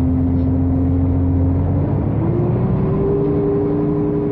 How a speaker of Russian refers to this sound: Автобус тронулся.